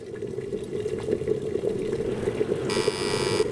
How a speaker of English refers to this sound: Is it a kettle? It is a kettle